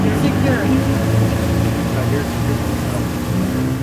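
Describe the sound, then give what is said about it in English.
The powerful engine of a small inflatable motorboat drones loud, a steady, throaty roar with a rich hum that holds strong throughout as the boat gets underway at a fast clip. “The motor is powerful, and the boat goes at a fast clip.”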